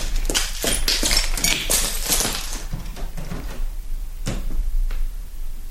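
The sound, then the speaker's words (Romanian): A door is opened to go out, with a busy burst of rattling and clattering handle noise, followed by quieter pauses and two sharp clicks or knocks, with no one speaking. “Să ies pe ușe.”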